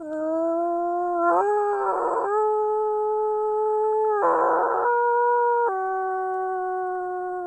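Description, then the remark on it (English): A person imitates a wolf howl while hiking, calling for missing wolf pups to respond, in long, steady sustained tones, breaking twice into rougher, wavering bursts before settling back into a smooth, fairly loud howl, with no other voices. “yards or so and do kind of a muffled howl, a lower howl, and then a little bit louder in hopes that the pups would respond back to us, especially if they were hiding at that point and still alive.”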